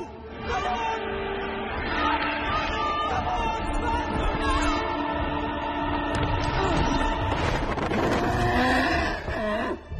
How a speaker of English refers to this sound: they start going like whinnying